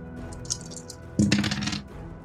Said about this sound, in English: I'm going to have you roll 3d6.